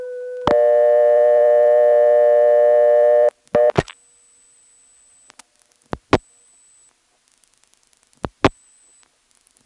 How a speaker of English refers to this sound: Here's 404 plus 411, which Greenville sends to Atlanta Directory Assistance.